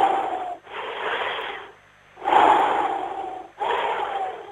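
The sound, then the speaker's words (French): Loud breathing: a long, deep breath drawn in and pushed out, repeated in slow airy bursts with brief pauses between, no speech over it. “Attends. Respiration.”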